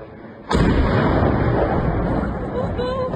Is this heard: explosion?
yes